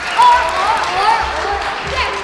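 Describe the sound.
An audience claps in a steady, dense patter that carries on for a couple of seconds, with scattered voices and murmurs mixed into the applause.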